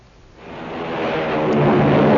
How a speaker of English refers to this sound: Hear that? It's the sound of a mighty American Airlines flagship taking off.